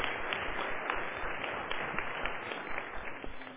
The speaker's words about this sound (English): Will you welcome him with a round of applause? I appreciate it.